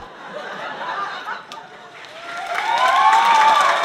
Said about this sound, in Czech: No, velmi se nám to líbilo, protože měli to velmi pěkně odkoukané i odposlouchané, takže potlesk také tomu nasvědčoval.